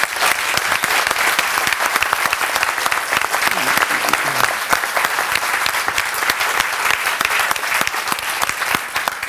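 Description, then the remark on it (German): An audience at the DAC 2023 live interview format applauds the interviewee steadily: a dense, even patter of many hands clapping that holds at a loud, constant level throughout without voices breaking through. “Einen Applaus für dich.”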